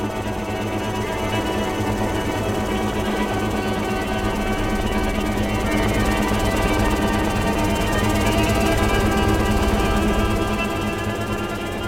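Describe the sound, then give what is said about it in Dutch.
The rotors of four helicopters thud in a rapid, continuous chop while four string players saw out sustained, clustered tones on top, the whole mass loud and steady throughout with no voices. “Vier strijkers en vier helikopters.”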